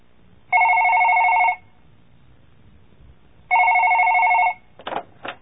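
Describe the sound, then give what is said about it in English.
A telephone rings twice, each ring a steady electronic trill lasting about a second with a pause between, followed by a brief clatter like the receiver being picked up, as a man phones the Old England Restaurant to book a table. “Listen to the dialogue again and take notes of the man's phone call to complete the following table.”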